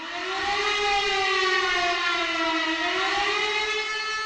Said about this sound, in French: Dix minutes après le début du bombardement de Wieluń, à 4h45, les sirènes de la Wehrmacht retentissent à 400 km plus au nord.